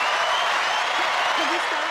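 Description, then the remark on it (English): Dense, steady applause fills the whole moment, a continuous wash of many hands clapping at once, with a faint voice murmuring briefly underneath. “You can't hear your own applause?”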